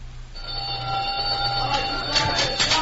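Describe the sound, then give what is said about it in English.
A prison supper gong rings out after a brief moment, a sustained, bright metallic tone with shimmering overtones that holds steadily throughout, over a low rumbling hum and some murmuring toward the end. “The gong will sound off any minute.”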